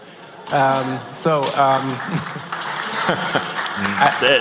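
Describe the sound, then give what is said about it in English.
Steady audience applause during an audience question session about recycling. A dense crackle of clapping lasts several seconds, with voices speaking loudly over it most of the time. “That's your applause.”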